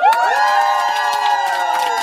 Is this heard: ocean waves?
no